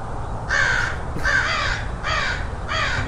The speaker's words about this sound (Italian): Ma cosa sono questi rumori che sento, Riccardo? Sono corvi, stanno mangiando tutto.